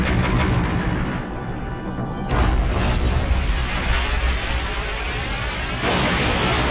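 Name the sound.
ship exploding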